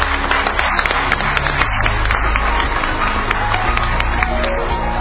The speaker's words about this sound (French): est-ce que vous pouvez applaudir?